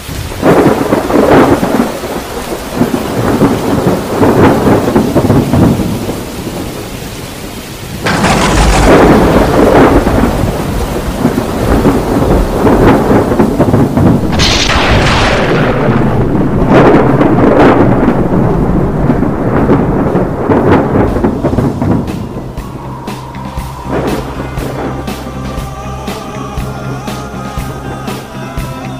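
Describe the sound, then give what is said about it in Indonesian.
Heavy, steady torrential downpour roars throughout, broken by loud thunder cracks and long rumbling rolls; near the end the rain thins into a patter of drips with occasional rumbles. “Setelah firman Allah yang menyatakan bahwa akan ada azab untuk kaum Nabi Nuh yang mengingkari dakwahnya, kemudian hujan turun deras dan dahsyat yang dalam sekejap mata telah menjadi banjir.”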